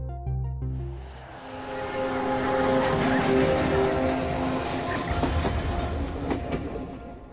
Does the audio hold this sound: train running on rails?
yes